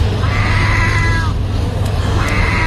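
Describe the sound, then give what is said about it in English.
A seagull imitating a cat to get free food gives two drawn-out, wavering meow-like calls, loud, separated by a short pause, over a steady low background rumble. “And this is a seagull mastering the art of doing a meow to get free food.”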